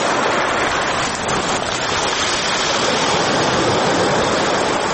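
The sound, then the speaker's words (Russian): Steady, restless sea surf washes in a few metres away by a coffee house in Sukhumi, Abkhazia, a dense hissing roar with faint gravelly rattling as small pebbles tumble in the water. No voices, just the continuous sea. “В нескольких метрах от нас беспокойно шумело море, перекатывая мелкую гальку. Год уходил под шум прибоя.”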